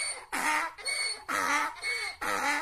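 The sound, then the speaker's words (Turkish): One of Silenus's donkeys brays loudly, its harsh, harmonic hee-haw calls repeating in a steady seesaw rhythm of high and low bursts, with no voices. “Ancak tam dokunacakken Silenus'un eşeklerinden biri yüksek sesle anırır.”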